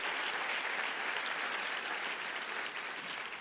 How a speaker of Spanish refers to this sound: Dele mejor ese aplauso al Señor.